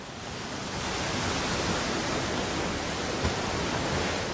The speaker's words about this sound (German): Also wenn wir uns jetzt die Autobahn nochmal anhören und dann nach einem Cut Meeresrauschen kommt, dann kann man vielleicht ganz schön den Unterschied raushören. Es folgt das Tonbeispiel Meeresrauschen, Brandung.